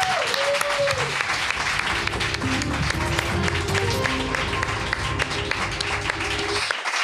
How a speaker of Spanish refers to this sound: Un aplauso.